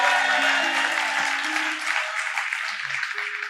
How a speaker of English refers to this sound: In fact, we see very clearly, God, let's give the Lord a clap, amen?